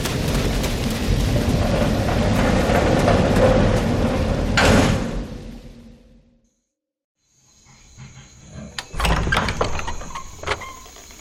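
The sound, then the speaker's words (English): Steady, loud rain hisses for several seconds, then fades away to silence, followed by a few sharp mechanical clunks and a thin high whine. “Here comes the rain.”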